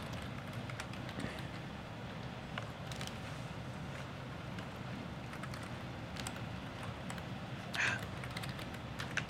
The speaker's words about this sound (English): Oops, not F1. Fingers going all over the keyboard here.